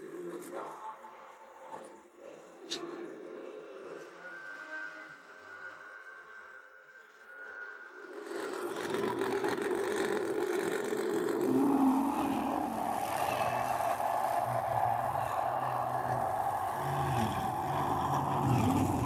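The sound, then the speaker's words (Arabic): A car engine is started and idles quietly, then swells into a loud, steady roar around the midpoint as the vehicle accelerates and keeps driving toward the sports ground, its rumble continuing to the end. “دعونا نقود إلى الملعب الرياضي.”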